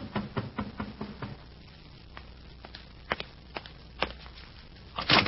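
Someone knocks at the door of Captain Halcroft's room: a quick run of about eight sharp raps, then a few scattered single knocks, ending in a louder clatter. No one speaks.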